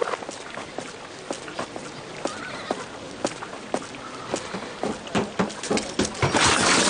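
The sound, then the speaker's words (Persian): A horse neighs amid a series of sharp, irregular hoof clops, the clatter growing louder and busier toward the end, with no voices present. “اسبم آباده است.”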